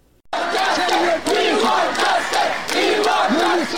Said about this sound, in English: These slogans by Afghans living in New Delhi have been ringing in the aftermath of the swift Taliban takeover outside the office of UNHCR, the United Nations Refugee Agency.